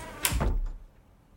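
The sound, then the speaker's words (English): A door swings and shuts with a single muffled thud and brief rattle as coworkers leave work at 5 o'clock, followed by quiet room tone. No one speaks. “But finally, as the clock strikes 5, our coworkers shuffle out the door.”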